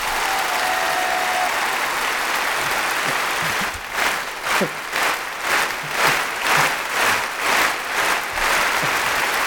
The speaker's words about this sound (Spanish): le ha pedido al público un aplauso, por favor. Creo que lo merece.